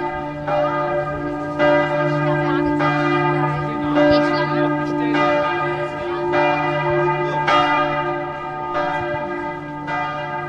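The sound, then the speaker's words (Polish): Bells from an old town hall chime in concert, a melodic sequence of struck tones ringing out every second or so over a sustained, resonant hum, steady and fairly loud with no talking. “No właśnie, i tam rozpoczął się ten koncert dzwonów, posłuchajmy jeszcze przez chwilę.”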